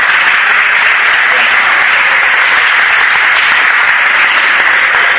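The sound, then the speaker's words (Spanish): Sustained audience applause for the captain of the youth team, a dense, steady wash of many hands clapping at an even, fairly loud level for several seconds, with no clear pauses. “El capitán del equipo de juveniles, le damos un aplauso así de...”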